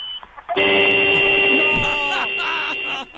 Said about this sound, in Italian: Clacson 4 secondi questa volta, dai.